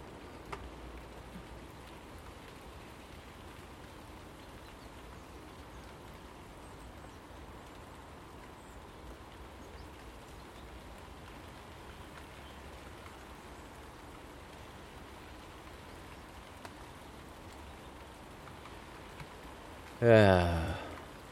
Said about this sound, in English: When is this rain going to stop? Just give us a breather.